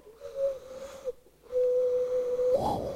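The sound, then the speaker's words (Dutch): A voice imitates a dove's cooing with two long, soft, steady hooting tones separated by a short pause, ending in a brief rising breathy sound. “Als er zo'n duif zit, die gaat dan, die is heel zachtjes aan het koeren, noemen ze dat ook wel.”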